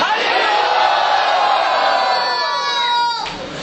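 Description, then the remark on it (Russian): A crowd roars a loud unison chant of "Hari Bol", many voices shouting together in one sustained burst that swells and then cuts off abruptly near the end. “Кто хочет быть счастливым, громко скажите «Хари Бол».”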